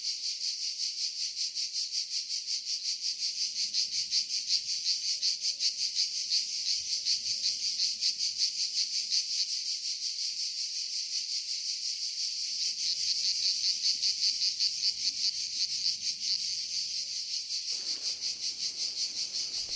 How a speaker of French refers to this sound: on va se faire chier si on écoute des grillons